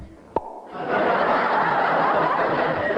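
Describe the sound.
A single sharp click, then a long, steady, raspy and breathy vocal noise lasting over two seconds: a voice imitating a door swinging open.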